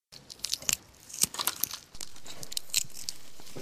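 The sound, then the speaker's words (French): A hard-boiled egg shell being cracked and peeled: quick, irregular bursts of crisp, high crackling and crunching, fairly quiet, with a steady hiss underneath in the second half. No one speaks. “Le petit crissement familier de l'œuf dur que l'on écaille sur un coin de table ou bien en pique-nique.”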